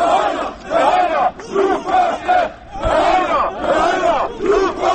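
Activists of the Self-Determination (Samoopredjeljenje) movement protesting in front of the Kosovo government building chant slogans against government and police violence in loud, rhythmic bursts of many voices shouting in unison, with brief dips between each chanted phrase.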